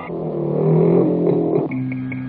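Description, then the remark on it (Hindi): A motorcycle engine revs up loudly, its pitch rising and holding for a moment before settling into a steady running drone as someone rides the motorcycle off; no voices present. “देख मैं तेरी मोटरसाइकिल लेके जा रहा हूँ।”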